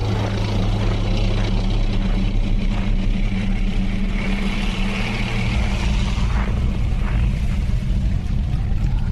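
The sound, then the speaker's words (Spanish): A heavy, continuous engine rumble from two tanks advancing along an avenue under a misty, snowy sky, loud, with a deep low drone and a mechanical clatter layered on top for the whole stretch. No voices. “Avanzan los tanques y otean el brumoso horizonte nevado en busca de cascarudos, enemigos o cualquier amenaza.”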